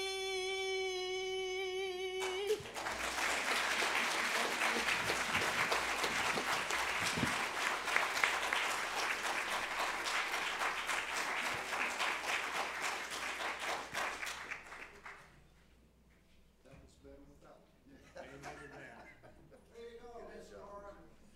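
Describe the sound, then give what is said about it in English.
A woman's sustained sung note ends, then an audience breaks into loud, dense applause for her lasting over ten seconds before it fades and a person starts speaking. “Y'all give her another round of applause.”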